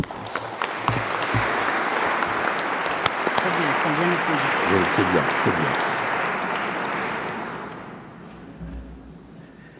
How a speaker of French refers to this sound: Les lauréats des prix de fondation voudront bien se lever maintenant pour que nous leur prodiguions nos applaudissements.